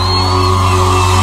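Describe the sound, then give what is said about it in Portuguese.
An audience cheers and applauds a poet after a Brazilian music performance on Rádio Piratininga, in a dense, steady roar with scattered whoops and shouts, loud and unbroken throughout, over a low sustained hum. “Mais palmas pra essa poeta linda.”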